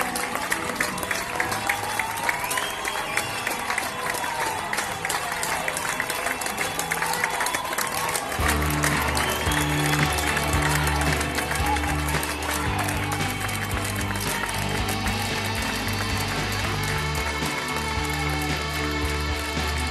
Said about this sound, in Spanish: Quiero agradecer ese reconocimiento que se hace todos los días al personal sanitario, ya sea con los aplausos, con las publicaciones en las redes sociales o con los mensajes de cariño de los amigos, de los familiares.